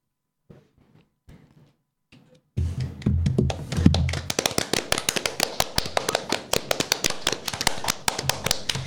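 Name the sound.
hands clapping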